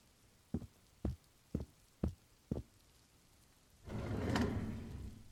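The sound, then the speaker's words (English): Five sharp, evenly spaced knocks, then a desk drawer at the back of a room slides open with a sustained scraping, rummaging rustle as someone searches through papers in it, moderately loud, with no voices. “Yeah, I actually think they're in that desk drawer, the one at the back of the room.”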